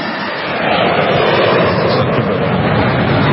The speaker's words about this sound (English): He actually launched his own little drone.